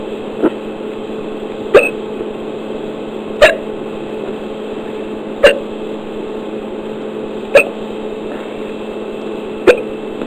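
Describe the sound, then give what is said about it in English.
Six sharp hiccups land at fairly regular intervals of roughly two seconds, each a brief gulping catch over a quiet, steady background hum. “I tried holding my breath, and the hiccups stopped for about 5 minutes, but now they started up again.”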